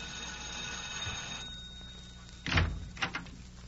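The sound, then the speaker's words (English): A doorbell's ringing tone fades out, then a front door is opened with a solid clunk of the latch followed by a quicker second rattle. No one speaks. “She's got the busiest phone in North Denver, and she never quite knows who she's going to find at the front door when the bell rings, or what the problem's going to be.”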